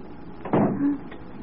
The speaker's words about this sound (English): The door. It's closed behind us.